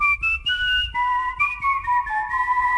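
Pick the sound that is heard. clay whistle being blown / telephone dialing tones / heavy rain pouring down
clay whistle being blown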